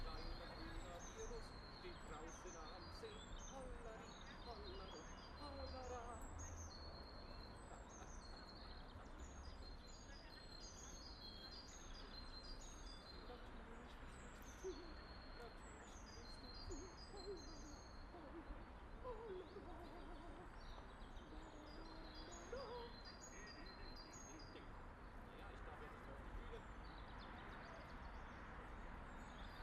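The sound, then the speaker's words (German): A bird sings in the Hasenheide park, repeating short, bright, high-pitched phrases again and again over a steady low rumble of traffic and background murmur. “Hört mal, da singt wer.”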